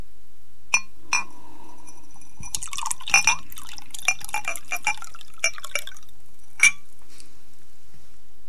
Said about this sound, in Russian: На троих, давай. Ну что, наливай?